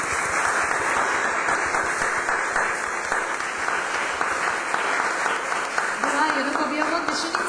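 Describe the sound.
A crowd applauds steadily, a dense wash of many hands clapping at an even level throughout, with a faint voice rising briefly near the end.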